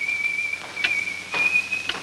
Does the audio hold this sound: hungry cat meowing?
no